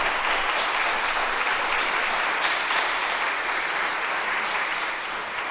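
A church audience applauds steadily and warmly to welcome a newly baptized member, a dense wash of many hands clapping at an even level for several seconds with no talking over it.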